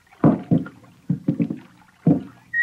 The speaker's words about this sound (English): Slowly, stealthily, they begin to row toward the fresh-cut logs floating on the surface.